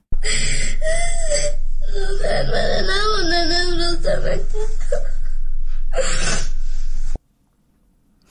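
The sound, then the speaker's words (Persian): A schoolgirl in Afghanistan sobs and wails loudly, her voice rising and wavering in anguished cries with sharp gasping breaths, for about seven seconds before stopping abruptly, apparently distressed after the Taliban decision to keep schools closed to girls above sixth grade. “گریه و ناله یکی از دانش آموزان دختر در افغانستان بود که ظاهراً بعد دنبال تصمیم طالبان مبنی بر تداوم بسته ماندن دروازه های مکتب ها برای دختران بالاتر از صنف ششم به شدت پریشان و مایوس شده.”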